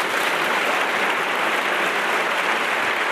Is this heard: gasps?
no